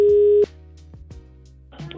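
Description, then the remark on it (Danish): A steady electronic telephone ringing tone of an outgoing call holds for about half a second, then stops, followed by a few soft clicks and a faint burst of line noise. No one speaks. “Og jeg har fået et lille tip, så vil du trykke disse taster og tænde for optagerapparatet? Ja, jeg prøver lige at... Ja. 2 sekunder, så gør vi til det. Ja. Ringe.”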